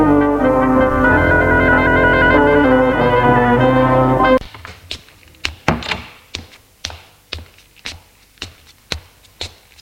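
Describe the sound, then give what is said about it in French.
A held musical chord fades out, then a steady series of about ten sharp knocks on the door of a mother's bedroom follows, evenly paced and fairly loud, with no voices. “Qu'il est sorti de la salle d'eau, il frappe à la porte de la chambre de sa mère.”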